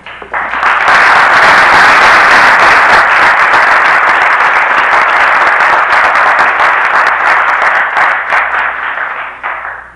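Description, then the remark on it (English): A crowd applauds a speaker steadily for about nine seconds as he finishes his talk: a dense, loud wash of many hands clapping that swells in quickly and tapers off at the end, with no voices over it. “I didn't want to walk up here too fast and cash in on my boss's applause.”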